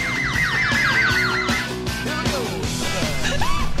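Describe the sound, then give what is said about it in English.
An ice cream van's jingle plays a tinny, electronic tune of quick repeated falling notes, fairly loud over a steady wash of street noise, with no one talking. “You're hearing the sound of an ice cream van, which we're not partaking.”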